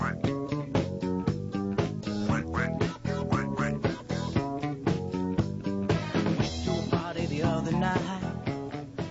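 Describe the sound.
An upbeat disco track plays loudly with a steady, driving beat while a nasal, raspy voice imitates a duck's quacking over the music.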